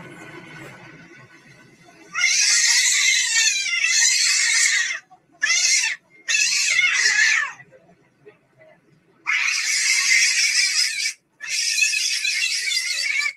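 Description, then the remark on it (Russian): A cat screams frantically in several long, loud bursts separated by brief pauses, the shrill wailing rising and falling, with a low murmur of background noise at the very start; a cat in a video, on an airplane with a phone. “Кот летит в самолете с телефоном.”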